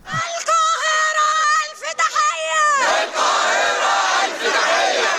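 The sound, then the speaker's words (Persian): A large protest crowd in the streets of Cairo, Egypt, shouts in support of Palestinians against Israel's attack on Gaza: loud sustained chants with rising and falling pitch, then a dense, continuous roar of many overlapping voices yelling together. “فریاد حمایت از فلسطینی‌ها در قاهره.”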